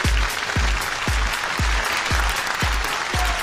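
Loud, steady crowd applause fills the whole clip, a dense wash of clapping with a regular low thump about twice a second underneath, like rhythmic stomping or a beat.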